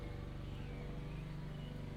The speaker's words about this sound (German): Ah, da geht ein Rasenmäher los. Was ein Glück.